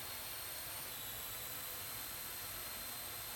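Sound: drone taking off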